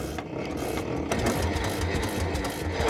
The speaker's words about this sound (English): So I'm turning the handle rather slowly. That's hopefully going to bring some petrol into the engine. Then I'm going to turn it a little bit speedier. Then when it catches, I'm going to move out the way.